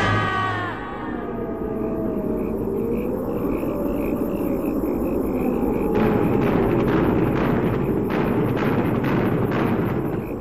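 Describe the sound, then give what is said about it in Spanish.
A steady, heavy rumble fills the scene, and in the second half a rapid series of sharp gunshots cracks through it, fairly loud and irregularly spaced, with no voices. “¿Escuchaste? Creo que son disparos.”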